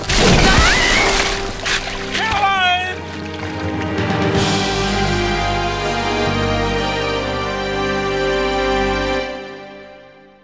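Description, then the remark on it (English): Ice cracks and breaks apart into rushing river water with a strong current flowing underneath, a loud, churning splash for a few seconds, then gives way to a long, steady droning tone that fades out. “with the strong current flowing underneath the ice, he didn't have the strength to pull her out.”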